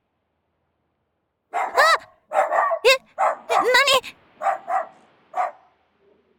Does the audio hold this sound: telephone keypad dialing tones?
no